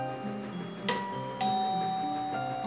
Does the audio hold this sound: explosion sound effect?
no